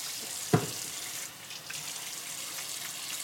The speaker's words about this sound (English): Please come in. I'm just gonna wash my hands